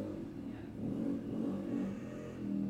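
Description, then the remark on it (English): A loud motorbike engine rumbles and revs continuously outdoors, a deep sustained drone with slight surges in intensity, with no voices present. “Sorry, there is someone on a motorbike / tractor and it's very, very loud and annoying.”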